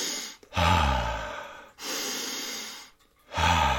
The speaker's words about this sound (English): Okay, have a little water and then do some breathing. Do some breathing exercises. It's like, the inhale, exhale through the nose.